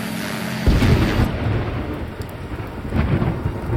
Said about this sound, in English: He turned up the volume, shut his lights off, and as he crawled into his bed, it began to storm.